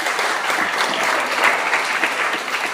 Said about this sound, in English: Let's just celebrate. Let's celebrate and clap.